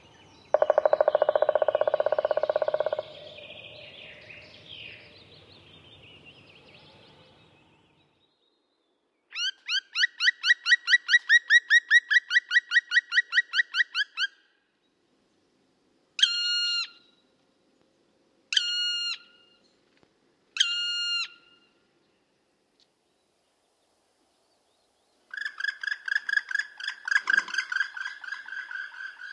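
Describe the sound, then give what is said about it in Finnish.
Black woodpecker sounds with no voices: a loud, fairly long, slow-tempo burst of drumming, then a rapid run of ringing flight calls, three separate shrill descending cries, and a final rapid call series. “Tässä kuultiin palokärjen melko pitkä ja hidastempoinen rummutussarja sekä tunnistettava yksittäinen kimeä huuto ja pitkä lentoääni.”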